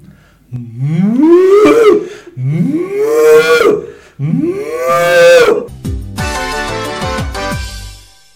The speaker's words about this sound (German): Wie hört sich jetzt nochmal eine Kuh an?